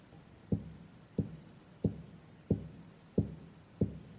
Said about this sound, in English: Kept knocking.